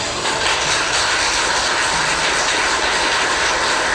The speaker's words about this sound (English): That thunderous applause in the courtroom as a judge sentenced Sean Great to death by lethal injection.